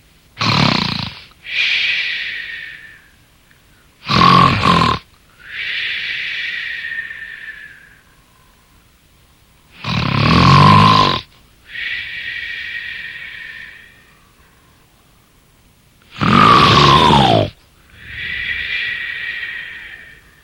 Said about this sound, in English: The magic harp began playing such a sweet lullaby that soon the giant fell asleep and began snoring loudly.